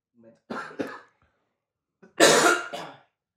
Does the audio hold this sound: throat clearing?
yes